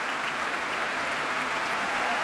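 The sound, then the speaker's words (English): Dense, sustained applause for an orchestra as its sections stand, the strings rising to their feet and applauded by the dancers, with dancer Antonio Marquez urging conductor Juan Colmena to share the applause; many hands clapping at an even, fairly loud level throughout with no voices breaking through. “A harp in the orchestra too, and now the strings rising to their feet and being applauded by the dancers.”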